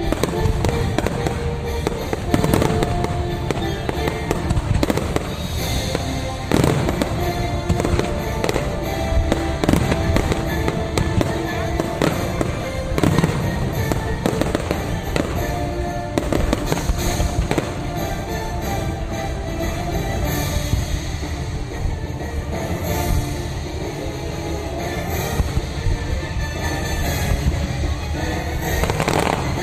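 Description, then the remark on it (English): A theme park fireworks show: a continuous barrage of fireworks explosions, dense overlapping booms and crackling bursts rolling on steadily for about half a minute, loud and full, with no voices. “Or no, that's their fireworks show, I guess.”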